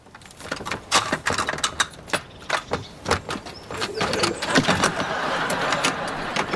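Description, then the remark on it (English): A rapid series of sharp metallic clicks and clacks, like many door locks being unlocked one after another, followed by a steadier rattling and scraping as the mechanisms keep working. “It's a lot of locks.”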